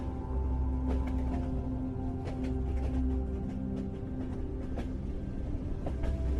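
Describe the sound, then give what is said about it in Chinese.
A steady, heavy rumble of a train running along the rails deep into the Kunlun Mountains, past Nachitai towards Yuzhu Peak station, with a continuous low drone, faint humming tones and scattered clicks and clatters from the wheels, unbroken throughout. “火车继续深入昆仑山脉中”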